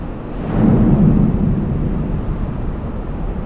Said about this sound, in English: In the bowels of a supertanker at sea, you can hear why environmentalists are concerned. Waves crashing into the bow sound like a thunderstorm.